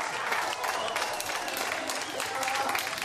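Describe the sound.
European Space Agency staff burst into sustained applause and cheering at the confirmation that Philae, the Rosetta probe lander, has made contact with the surface of a comet: dense steady clapping with excited voices mixed in, loud and continuous throughout.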